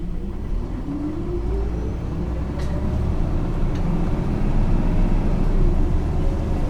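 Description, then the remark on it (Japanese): A bus engine rumbles low, its pitch climbing steadily as the bus pulls away after waiting at a traffic signal and gathers speed, growing slightly louder. Nobody speaks. “はい、発車いたします。”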